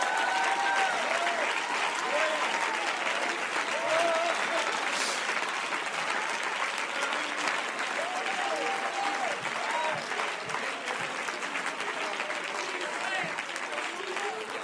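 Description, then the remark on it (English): An audience claps steadily for about fifteen seconds, a loud, dense wash of applause that barely fades, with scattered voices calling out beneath it. “Now let's see if you still clap on this one.”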